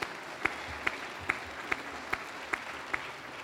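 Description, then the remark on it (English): Audience applause for a pastor's 47 years of devotion to St. Paul fills the moment, a dense wash of clapping with a few sharper claps landing on a steady, even beat. No one speaks over it. “It's all right to clap.”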